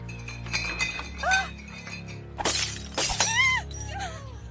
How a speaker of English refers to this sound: two bottles of wine suddenly flew off the wine rack and were thrown across the room, smashing loudly against the opposite wall.